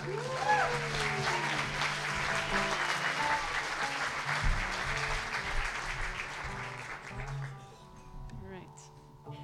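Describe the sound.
A crowd claps and cheers steadily for several seconds as the next storyteller is introduced, dense and sustained, with a few whoops and voices mixed in before the applause begins to thin out near the end.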